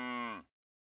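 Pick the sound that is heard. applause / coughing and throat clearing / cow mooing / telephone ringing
cow mooing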